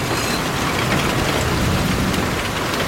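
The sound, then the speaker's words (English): Heavy rain pours down in mid-June in a steady, dense hiss that never lets up, with a low rumble of thunder rolling beneath it. No one speaks. “Oh my God, it's absolutely pouring it down now. This is terrible weather. Anyway, oh, can you hear the thunder?”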